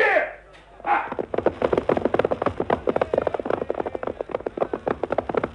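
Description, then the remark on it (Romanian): Horse hooves clip-clop in a quick, steady rhythm as a horse is ridden, the beats loud. They continue for several seconds after a brief sweeping sound at the start. “Uite, încalic pe cal și mă opresc în fața boierului.”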